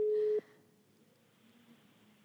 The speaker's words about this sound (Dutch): De telefoon gaat over.